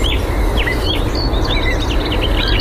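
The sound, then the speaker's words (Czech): A common nightingale, courting a female, sings a quick run of whistled phrases and chirps at 5 a.m. dawn in Văcărești National Park, Bucharest, Romania, over a steady low rumble and hiss of the surrounding outdoors. “V Národním parku Vakarešť nás vítá slavík, který v době vábení samičky téměř neumdlévá a za chvíli se už chorus svítání rozezní naplno.”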